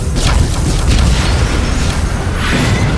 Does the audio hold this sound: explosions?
yes